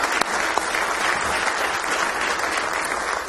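A church audience bursts into steady applause for the wives at a morning service, many hands clapping at once in a dense, continuous crackle that holds at an even, fairly loud level for several seconds without any talking.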